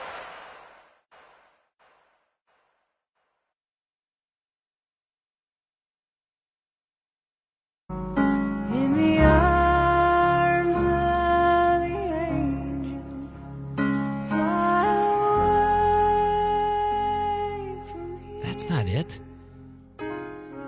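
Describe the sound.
After a brief faint bit and several seconds of silence, a song starts up loud and full, with sustained melodic tones and what sounds like a singing voice carrying on to the end.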